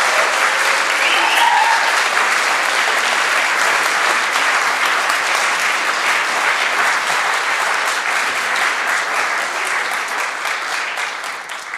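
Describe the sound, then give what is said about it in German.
Sustained audience applause, a dense steady clatter of many hands clapping at an even loudness for about twelve seconds, tapering slightly at the end, with no talking over it, welcoming four invited guests to the front. “Und ich bitte Sie mal mit einem warmen Applaus hier vorne willkommen zu heißen.”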